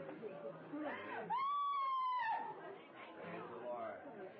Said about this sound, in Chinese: 女人能信，你可能纳闷为什么女人欢呼，你也会的，如果你处在一种快死的情况的话。